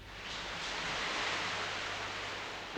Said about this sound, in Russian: Ой, ой, ну и дождь.